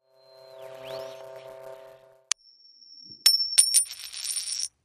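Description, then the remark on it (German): A 1300-year-old historical coin is handled and turned over to its reverse side: a low humming ring, then a sharp metallic tap, a thin high ringing tone, and a few bright clinks that shimmer and fade, with no talking. “Und jetzt drehen wir die Münze mal und gucken uns die Rückseite an.”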